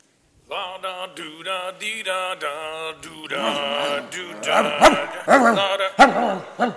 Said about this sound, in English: Now what? I say, what in tarnation is that dog making noise about now? Hey, dog! Shut it! I say, shut your trap!